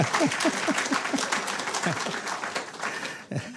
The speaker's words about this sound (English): Oh, let's give another applause for that celebration.